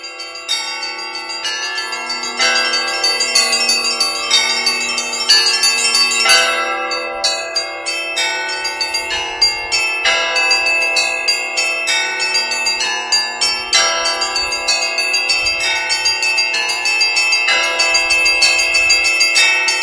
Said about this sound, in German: Als ob das nicht schon genug wäre, hat der Kirill noch seine Knie mit einem Stangenwerk verbunden, wo er auch noch 2 Glocken anschlagen kann. Eine dynamische Sache.